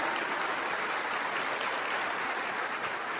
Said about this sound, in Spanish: El sistema que tenemos aquí educativo, que es Visión Global, un aplauso para todos los líderes de Visión Global.